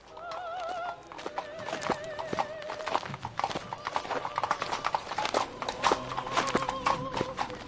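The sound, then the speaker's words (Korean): Horse hooves clip-clop in a steady rhythm throughout as a funeral procession moves along, with wavering whinnies rising over the hoofbeats near the start; mourners' footsteps and an occasional light breeze accompany them. “노래소리가 멎으면 장례 참가자들의 발소리와 말 발굽 소리와 간간이 가볍게 부는 바람 소리가 노래를 이어받는 것처럼 느껴졌다.”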